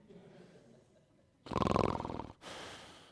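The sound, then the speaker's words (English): A person imitates a loud snore: after a quiet, low rumbling start, a harsh, buzzing inhale swells up, then breaks into a rougher, airy exhale. “I'm snoring.”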